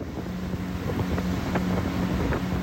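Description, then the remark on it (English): A motorboat cruises along the wide, mud-brown Sanga River, its engine a steady low drone beneath constant wind buffeting and rushing water, with occasional faint splashes and no voices. “I've been back on the immense mud-brown Sanga River for about 5 hours now, give or take a few stops for local officials to check our documents.”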